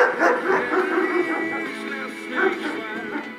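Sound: dogs barking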